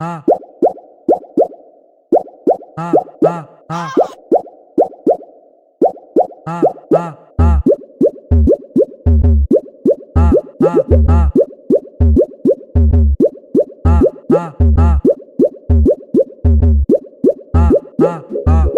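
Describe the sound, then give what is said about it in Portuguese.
Rapid, rhythmic water plop sound effects repeat in a steady bouncy pattern. About halfway through, a loud thumping bass beat joins in under the plops. “Olha o barulho, DJ, olha o barulho, da, o barulho da água.”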